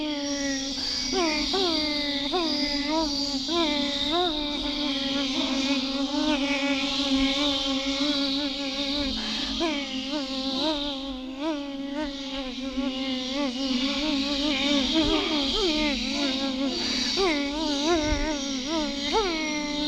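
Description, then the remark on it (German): A dense swarm of bees buzzes continuously and loudly, many overlapping drones wavering slightly in pitch, steady throughout with no voices. “Der Bienenschwarm.”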